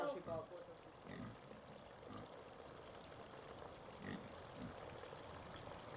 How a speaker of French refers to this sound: Donc là, c'est le cochon rose, c'est congèle.